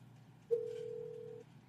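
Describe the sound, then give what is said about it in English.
A single steady electronic ringback tone from an outgoing phone call, lasting about a second, clear and fairly loud over a faint low background hum, with no one talking. “It's calling him now.”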